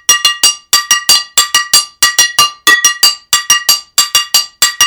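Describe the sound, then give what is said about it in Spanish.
A frying pan is struck in place of a Cuban campana, or cowbell, in a steady, syncopated rhythm, with sharp, bright metallic hits that ring briefly and repeat loudly in quick groups, with no voices. “El sartén sí le da un sonido muy, muy rico y era lo que más se acercaba a lo que es la campana, ¿no?”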